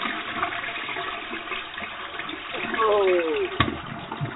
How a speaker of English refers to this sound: Oh. What? Ha ha! You got flushed down the toilet.